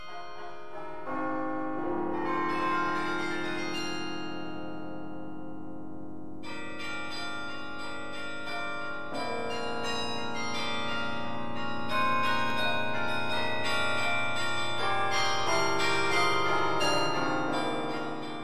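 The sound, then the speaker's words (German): The large carillon in the Tiergarten district of Berlin rings out Jingle Bells, played by the carillonneur, a steady, tuneful melody with tones layered with long ringing overtones that overlap from note to note. The sound is fairly loud and continuous, with no voices. “Ja, und da spielt der Carioneur Jingle Bells.”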